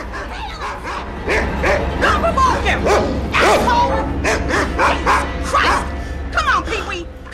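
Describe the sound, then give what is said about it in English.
A big Alsatian barks loudly in a rapid, insistent string of yelps and woofs at a man who has opened a door off a corridor, with a brief shout from a man partway through. “He opens a door and is faced by a barking Alsatian.”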